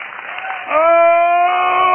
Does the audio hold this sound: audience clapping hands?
yes